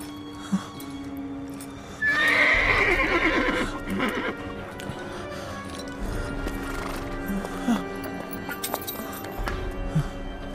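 A horse named Sanobar lets out a loud, high whinny that wavers and falls over a couple of seconds, followed by steady clip-clop of hooves and a few soft snorts, with low background rumble throughout.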